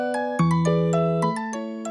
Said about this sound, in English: It was even used to generate ringtones in early cell phones.